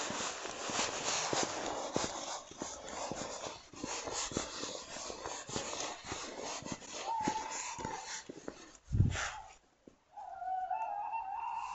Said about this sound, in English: We have a lot of owls in the village, particularly tawny owls.